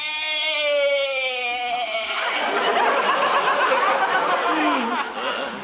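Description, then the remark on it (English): A goat named Arthur bleats in a long, wavering cry for about two seconds, then a burst of loud audience laughter takes over and carries on to the end. “Yeah, you sure bleated a bib full, Arthur.”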